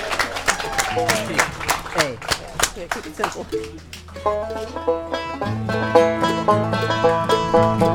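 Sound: audience cheering and applause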